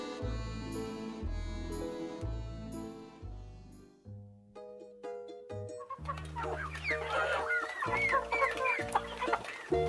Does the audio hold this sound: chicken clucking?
yes